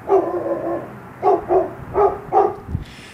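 Several dogs bark in a long, low kennel dormitory in the mountains around Weaverville, North Carolina, home to 65 dogs rescued from puppy mills or hoarding situations and in an ASPCA rehabilitation program. A long yelping call is followed by a quick run of four sharp barks, with more barking and noise in the background.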